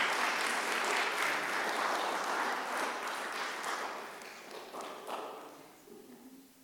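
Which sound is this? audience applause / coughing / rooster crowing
audience applause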